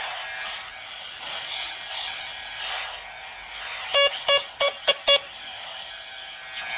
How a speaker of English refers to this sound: I can do some Morse code for you.